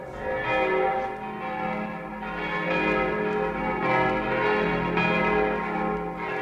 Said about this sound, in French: alors que par un beau dimanche de la Quasimodo, les cloches de Notre-Dame sonnent la fin de la messe.